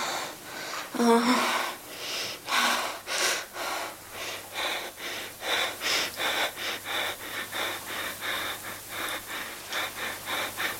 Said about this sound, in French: Dernière respiration, juste avant la naissance.